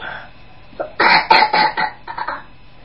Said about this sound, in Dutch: Ik krijg wel dit hoesten.